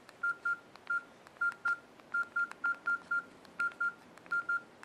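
A series of short, evenly pitched beeps from a phone keypad, about sixteen quick tones in uneven bursts of two or three as keys are pressed while typing a message in the phone's messaging app, with faint tapping and no talking.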